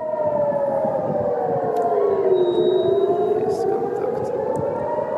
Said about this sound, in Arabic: طبعا لا نرى المسيرة لكن نسمع صفارات الإنذار، وهذا معناه أن كان هناك خطر محدق وبالتالي دوت صفارات الإنذار.